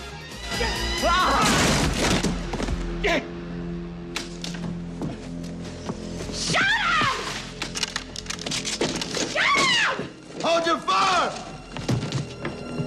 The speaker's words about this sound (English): Einhorn lifts up a wooden crate and smashes it over Ace's head.